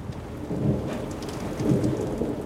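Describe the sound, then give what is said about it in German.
Steady rain pours down while deep thunder rumbles, swelling twice in long low rolls beneath the hiss of the downpour, as storm chasers wait for the approaching thunderstorm. No voices are present. “Man versucht natürlich rechtzeitig vor Ort zu sein, um dann das Gewitter auf sich zukommen zu lassen.”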